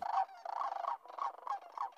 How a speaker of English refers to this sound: And best of all, the prehistoric croaking calls of the returning sandhill cranes.